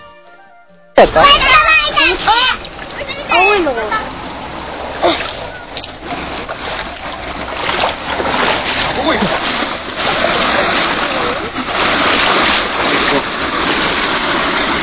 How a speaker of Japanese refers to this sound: ではですね、ここでラジオでどこまで届くか、ラジオで川遊び、子供たちの声をお聞きください。